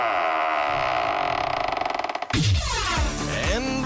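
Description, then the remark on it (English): A heavy vault door creaks open: a loud, sustained metallic grind with rapid ratcheting clicks that speed up, then a sudden shift to long, groaning sweeps of metal. No one speaks. “Let's open up the vault door.”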